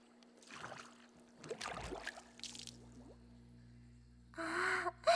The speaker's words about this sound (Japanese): 私もあまり詳しくはないですが、確か泡が吹き出ているお風呂なんですよね。ああ、本当に泡がブクブクと立ち上っています。すごいですね。